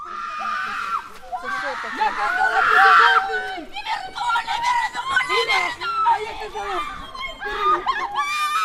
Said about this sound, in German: Die Frauen schauen auf die Uhr. Da ertönt ein Schrei.